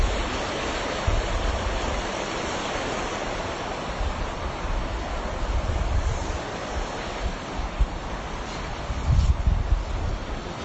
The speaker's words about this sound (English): You hear the river.